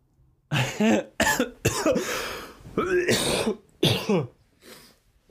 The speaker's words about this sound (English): You ever cough so hard that it blows you back in your seat? Because that's what I just did.